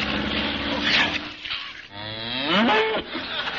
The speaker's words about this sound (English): See the way he's keeping his way through that herd of cows on the runway.